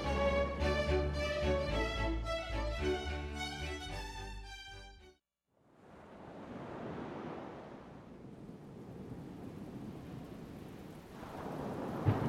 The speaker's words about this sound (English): Suddenly, a storm came. The sky was very angry, and the wind was very strong. The waves were becoming very rough.